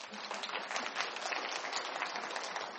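An audience applauds in praise of God: dense, steady clapping from many hands fills the whole few seconds at an even, fairly loud level, with no voices standing out above it.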